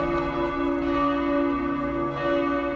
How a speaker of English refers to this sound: Right now you're listening to the monastery, the bells of St. Peter's.